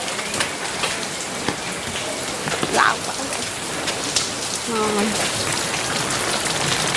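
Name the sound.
rain falling on surfaces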